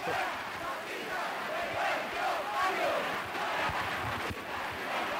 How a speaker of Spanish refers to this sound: Es el sonido y los gritos de fuera fascistas de nuestros barrios.